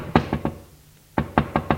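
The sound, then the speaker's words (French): Knocking on a door: three sharp raps, a brief pause, then four more in a steady rhythm, fairly loud with no voices. “On frappe à la porte.”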